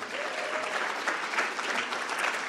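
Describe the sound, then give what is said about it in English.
A crowd at a talk applauds Oriel Wines, clapping steadily in a dense, even wash of many hands that holds at a constant level from start to finish, with no voices standing out above it. “A big round of applause for Oriel Wines.”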